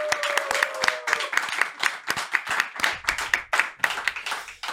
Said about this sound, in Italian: Fate un grande applauso ad Andrea Batilla.